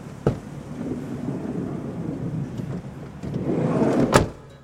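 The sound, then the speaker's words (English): A father's car arrives, its engine rumbling low and steady, swelling slightly as the vehicle pulls up, with a sharp clunk at the start and another loud thump near the end. “That's your father's car, no?”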